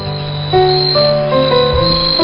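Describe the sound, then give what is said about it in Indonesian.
A steady, shrill drone of cicadas buzzing in a forest hums continuously at a fairly loud level, with lower sustained tones shifting underneath. No one speaks. “Suara tongeret memantul di sekitaranku.”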